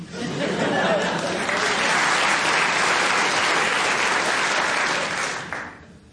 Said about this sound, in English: They clapped that, and I don't know why.